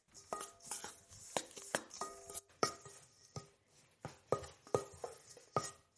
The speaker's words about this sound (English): Right, we have our biscuits, so we're gonna add our butter. And we're going to give everything a nice mix.